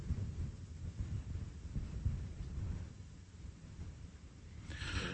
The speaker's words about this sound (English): Yeah, you hear that thunderstorm? You do hear that. Okay, I'm not going crazy. So something's piping thunderstorm into my ear, but you guys don't hear it in there. You only hear it off my system.